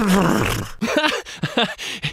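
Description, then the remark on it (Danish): Someone mimics a horse's neigh with a loud, breathy voice. It opens with a falling whinny, then breaks into several short, wavering vocal bursts. No words are spoken. “Du lyder jo som en hest.”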